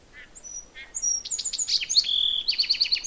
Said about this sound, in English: I'm starting out in my yard, and that's kind of the first song I leave before I even leave the yard, because this little bird nests at the edge of my yard. It's a song sparrow. Maybe he'll sing again.